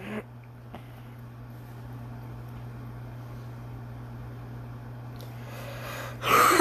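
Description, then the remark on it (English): A short, rough burst of coughing and throat clearing to clear mucus arrives at the very end, fairly loud, after several seconds of a steady low electrical hum with no talking. “If you hear me cough a lot, that's just because I have mucus.”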